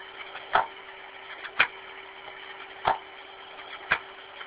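Four sharp, separate mechanical clicks at uneven intervals over a steady low hum, made by a lock mechanism catching as it is pulled out and pushed back in by hand, one click going out and one coming back in. No one speaks.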